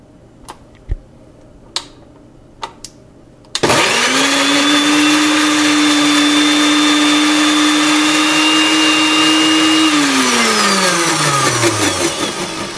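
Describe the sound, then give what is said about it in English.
A few light taps, then a blender with its lid closed roars on, loud, pureeing cooked carrots with a little water into baby food, whirring steadily for several seconds before its motor winds down and the pitch sinks as it slows. “Make sure the top of my blender is well closed.”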